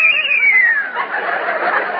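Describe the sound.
A person imitates a frightened horse's whinny: a high, wavering cry that slides downward over about a second, then breaks into a breathy, fluttering rasp. It is fairly loud.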